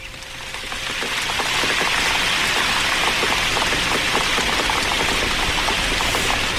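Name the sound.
rain falling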